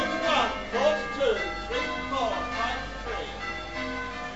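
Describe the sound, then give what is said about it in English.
Church bells ring in a steady peal in a country suburb on a Sunday, between 11 and 12, with overlapping strikes about every half second leaving a dense, sustained metallic hum. “Church bells ringing from 11 to 12.”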